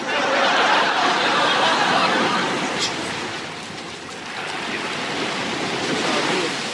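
Ocean waves rush and break on a beach in a steady, loud wash of surf that eases briefly midway, then swells up again.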